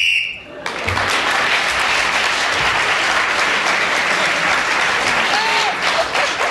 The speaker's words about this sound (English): Well, for the first time, someone has got a bonus point for not speaking when the whistle went.